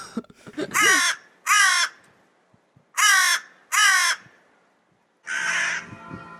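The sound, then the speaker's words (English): Loud, harsh raven alarm calls ring out: two quick pairs of rasping caws, then a longer, rougher final call, with no voices in between. “It is alarm calls.”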